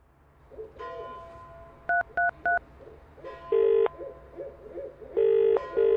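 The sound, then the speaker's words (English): A large owl sitting on a telegraph pole hoots repeatedly in a steady low series, alongside a quick run of three telephone keypad beeps and longer electronic phone tones. No one speaks. “I can see this large owl sitting on a telegraph pole”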